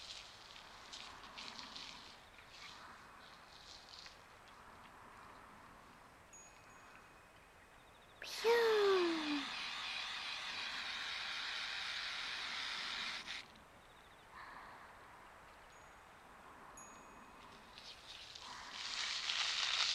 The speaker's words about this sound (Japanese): 炭酸スプレーですな。シュワシュワの炭酸をプシュッと、プシュッ、ひんやりシュワシュワ、頭皮全体になじませますな。